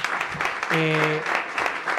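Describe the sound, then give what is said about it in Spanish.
Steady applause from a debate audience for the panel at the Colabora venue fills two seconds, a dense crackle of clapping hands with a short voiced cheer rising over it partway through. “Así que antes de empezar, un aplauso a nuestro maravilloso panel.”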